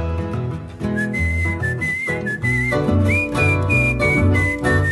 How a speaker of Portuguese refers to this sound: e um cantador se anuncia num assobio afinado.